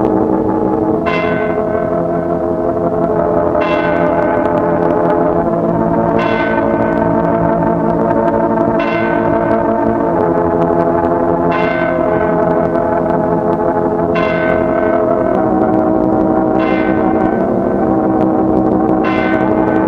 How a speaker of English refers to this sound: I ask you to remain silent in your places while you listen in reverence to the chime of the mystic hour of 11. With us, the hour of remembrance.